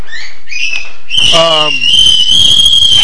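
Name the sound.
toddler screaming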